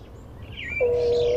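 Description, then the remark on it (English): A mourning dove's low, steady coo, played as the dial tone from the handset of a bird-calls phone by a bus stop, comes in partway through, clear, after a few faint higher chirps over a soft background hum. “This is your dial tone. It's a mourning dove.”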